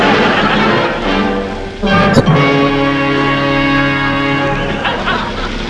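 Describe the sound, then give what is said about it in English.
A car drives up a railway line along the tracks, its engine droning steadily, with a sharp clunk about two seconds in before the rumbling hum carries on evenly to the end. “Well, of all the daft places to turn left. Straight up the railway line.”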